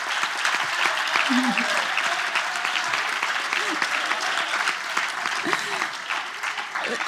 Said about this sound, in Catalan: Un fort aplaudiment, si us plau, que s'ho mereixen.